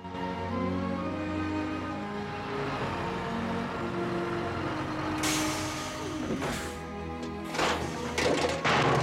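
Early in the morning on a quiet residential street, a rubbish collection truck's engine rumbles steadily, then loud crashes and clattering bangs ring out as bins are tipped and emptied, with a hiss of air brakes amid the racket.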